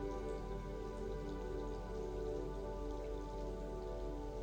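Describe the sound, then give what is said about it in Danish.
Steady, continuous rainfall patters down on a surface, a dense even hiss of drops with no pauses, layered over a low sustained hum. No one speaks. “Lad denne farve blot flyde med regnen udenom dig på din krop, og lad den fylde dit sind med varme og harmoni.”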